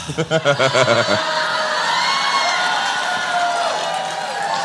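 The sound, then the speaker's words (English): An audience erupts in loud, sustained cheering and clapping, with big applause from the front, voices whooping over a dense wash of noise; a burst of rhythmic shouting opens it before settling into steady applause. “oh, big applause in the front. Big applause in the front.”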